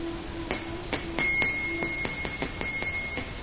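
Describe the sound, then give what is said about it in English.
A small hand bell, rung as part of a ritual offering, rings steadily, its clapper striking in quick, slightly uneven succession while a bright, shimmering high tone lingers between hits. No voices accompany it. “In our mind's eye, we offer these items by ringing a sweetly sounding bell.”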